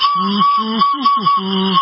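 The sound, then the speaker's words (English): A kazoo buzzes out a short tune of about five notes, the longer held notes alternating with quicker ones, loud with a nasal, reedy rasp. “From calisthenics to a kazoo.”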